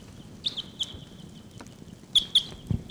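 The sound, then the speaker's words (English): Wild birds calling: a handful of sharp, high-pitched chirps at irregular intervals, rising briefly over a steady thin whine and a soft low rumble, with no one speaking; recorded while raining under an overcast sky, with birds numbered 749 and 745 responding. “Wild birds are calling.”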